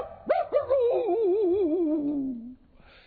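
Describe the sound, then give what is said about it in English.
Two quick bark-like yelps followed by a long, wavering howl that slides downward and fades, a voice imitating a dog in a sung children's song about farm animals, with no other sounds. “I fed my doggy by the green apple tree. My old doggy went.”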